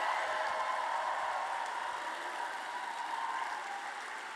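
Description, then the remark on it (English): An audience in Portland applauds 22 young poets who performed at the microphone that night, steadily, a dense wash of many hands clapping with no distinct individual claps, holding at an even level and easing slightly toward the end. No voices are heard. “So please put your hearts together and applaud all the 22 young poets that got up onto this microphone tonight.”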